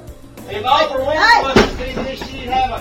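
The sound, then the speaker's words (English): A back door bursts open with one sharp bang partway through, while voices talk and murmur around it before and after. “I'm damn tired of you busting in the back door now.”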